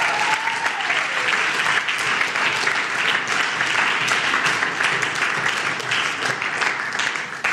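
A crowd breaks into sustained applause, dense steady clapping that stays loud for the whole stretch without fading, with no voices rising above it.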